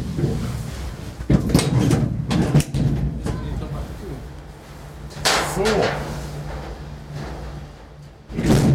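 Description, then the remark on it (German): Several sharp metallic thuds and clunks of cabin doors shutting on the Cologne Ferris wheel, scattered irregularly over a steady low mechanical hum, with faint voices murmuring in the background. “Ihr hattet gerade ein bisschen Eindruck von der Geräuschkulisse hier, Türen zu und alles.”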